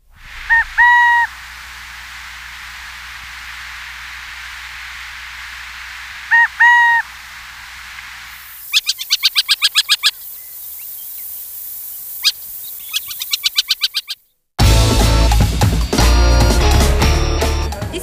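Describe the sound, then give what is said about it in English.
A burrowing owl gives two short, harmonic calls several seconds apart over a quiet hum, then bursts of rapid chattering clicks follow before music abruptly begins. “Burrowing owl.”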